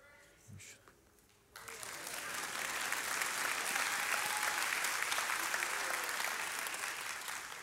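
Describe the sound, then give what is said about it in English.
After a brief quiet moment, a large church audience bursts into sustained applause during a sermon, dense steady clapping at a loud, even level until the end. “I mean, they clapped a lot at 9 o'clock this morning.”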